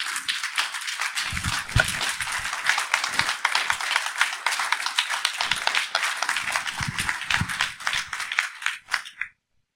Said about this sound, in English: Give a good round of applause to Pastor George Martin. Come on.